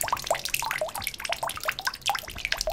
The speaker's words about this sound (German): Noch fließt hier im Schönbuch Wasser. Es plätschern kleine Bächlein immer mal wieder zwischen den Bäumen hervor.